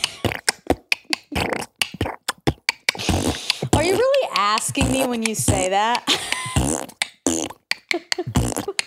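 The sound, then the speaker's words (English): A voice beatboxes a quick rhythmic beat of sputtering, fart-like mouth noises, punchy, pausing midway while someone talks before the beat picks up again. “Oh, can I do a fart beat?”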